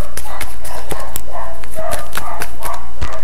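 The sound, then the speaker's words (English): A dog barks in a rapid, irregular series of short, sharp yaps, about a dozen bursts in three seconds, fairly loud with no speech over them. “Wait, I'm just gonna mute this first because of the dog.”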